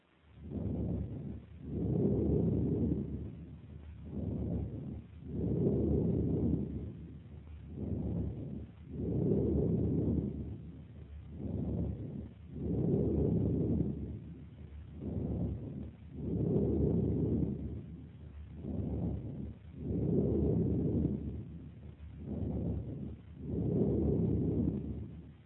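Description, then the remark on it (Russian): Amphoric breathing heard on the right side of the chest over a large tuberculous lung cavity: a steady, repeating cycle of hollow, low, roaring breaths, each shorter inhale followed by a longer exhale, about ten cycles with no talking. “Справа, над симметричным участком грудной клетки, в зоне проекции крупной туберкулезной каверны, отчетливо выслушивается амфорическое дыхание.”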